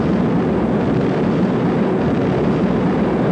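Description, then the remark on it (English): A heavy, continuous rumble of thunder rolls on without pause, deep and loud with a dense roaring texture and no voices over it. “I see him silhouetted in the lightning and the thunder.”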